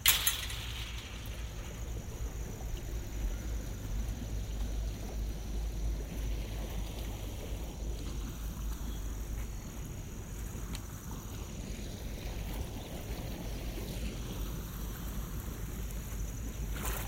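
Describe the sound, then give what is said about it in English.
Water sloshes and laps steadily in a hot tub as someone takes a dip, a continuous swishing with a low rumble underneath and no voices. “Now we'll go take a dip in the hot tub.”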